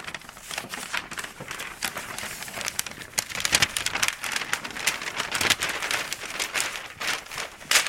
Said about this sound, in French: Donc là, effectivement, la carte papier, on va pouvoir la déplier.